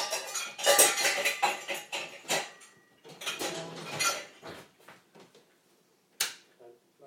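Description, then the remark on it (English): Cups clink and rattle against each other as they're loaded into a dishwasher, a busy run of bright clatters and knocks, then a few sharper isolated clinks near the end. “Now, these cups are for the dishwasher,”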